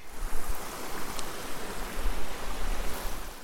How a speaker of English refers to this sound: The hike up was really special because you could hear the waterfalls cascading off of the peaks surrounding us.